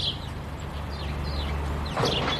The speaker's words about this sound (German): Die Mühlinenstrasse ist auf der einen Seite recht laut, aber hinten raus konnte ich die Spatzen hier hören.